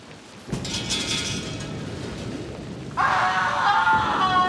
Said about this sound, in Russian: Молния пронзила небо и ударила в скалу, на которой стояла королева.